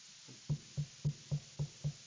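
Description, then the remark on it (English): Seven quick, evenly spaced knocks on a wooden door, each a dull, solid thud in a steady rhythm, with no voices. “Knocking at the door.”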